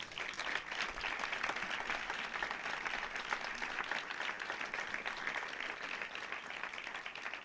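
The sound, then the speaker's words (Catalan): An audience applauds the people who helped with a project, steadily for several seconds, a dense, even wash of many hands clapping at a constant moderate level with no voices over it. “I jo crec que són unes persones molt importants que ens han ajudat en aquest projecte i que m'agradaria un fort aplaudiment per ells.”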